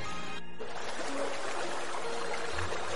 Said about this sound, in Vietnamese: Tai Địch Dân nghe thấy tiếng nước tí tách, trên mặt có cái gì lạnh ngắt đang nhỏ xuống đau đau, rồi cảm thấy lạnh, không có một chút sức lực nào.